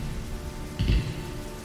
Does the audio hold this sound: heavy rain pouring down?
yes